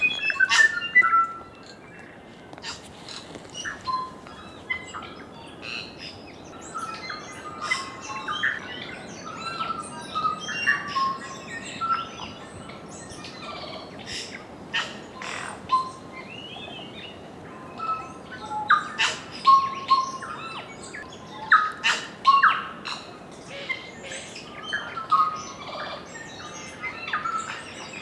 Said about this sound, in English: Although it's rare to see a kiwi or hear its call, what you will hear on Stewart and Olva Islands are tuis, kakas, bellbirds, parakeets, and the other species of birds that make the New Zealand soundscape so extraordinary.